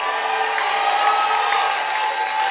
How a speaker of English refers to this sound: Look at how I'm shouting. And young men are doing jolly, jolly shouting.